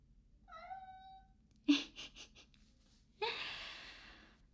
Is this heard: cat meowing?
yes